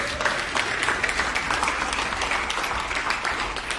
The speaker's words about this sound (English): Can we give the band a round of applause for all they do?